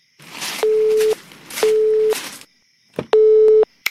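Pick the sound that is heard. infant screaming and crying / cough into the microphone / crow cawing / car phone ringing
car phone ringing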